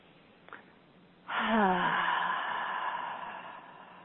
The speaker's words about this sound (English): And together, we'll take a nice deep breath in and exhale everything out. So breathing in.